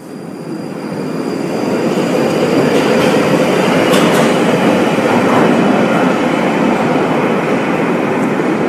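A London Underground train rumbles steadily along the tracks, a loud, dense roar with rattling wheels and faint metallic squeals, sustained throughout with no voices.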